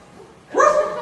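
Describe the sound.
A child's voice imitates a dog's bark with a single loud "woof" that rises sharply in pitch after a short moment of near silence, answering a question about what sound a dog makes.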